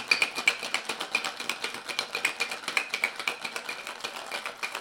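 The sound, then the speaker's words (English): A cocktail shaker holding whiskey, 3/4 ounce of homemade grenadine and 3/4 ounce of freshly squeezed lemon juice is shaken hard, ice rattling against metal in a fast, steady rhythm of sharp clattering bursts for several seconds, with no one speaking. “3/4 of an ounce freshly squeezed lemon juice. Shake that up.”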